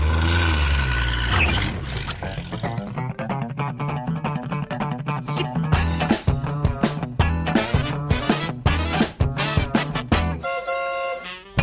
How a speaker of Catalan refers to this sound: Exacte, cotxes com aquest, que contaminen i contaminen